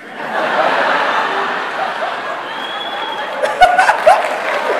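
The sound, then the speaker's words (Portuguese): A live audience reacts with a steady wash of laughter and murmuring. Near the end, a few sharp, scattered claps from the men break through, moderately loud. “Só os caras aplaudindo, as meninas assim, ó, não vou.”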